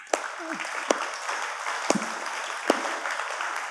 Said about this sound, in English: Let's make a bit of noise. Let's clap.